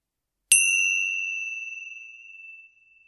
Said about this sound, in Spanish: Al sonido de las campanillas comenzamos la meditación.